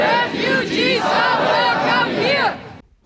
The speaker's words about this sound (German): So klang es am Samstag, den 31. Januar, in der Erfurter Innenstadt. Mehrere hundert Menschen, die demonstrierten unter dem Motto »Gemeinsam für eine solidarische Asylpolitik«.